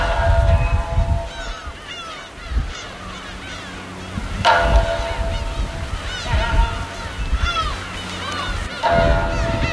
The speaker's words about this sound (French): Il y a tous ces oiseaux de mer sur des bancs de sable au milieu du canal qui remonte vers la ville.